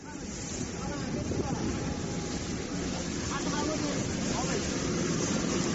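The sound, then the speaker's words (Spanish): Mediterranean sea water at Lampedusa: a steady, unbroken wash with a deep rumbling undertone and a hiss of wind, holding an even loudness for the whole few seconds with no distinct waves standing out. “El agua del Mediterráneo en Lampedusa es el cementerio en el que están sepultados miles de personas como nosotros que emprendieron un viaje en busca de una vida mejor.”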